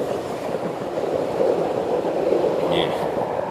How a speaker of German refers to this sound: S-Bahn, du bist zu laut.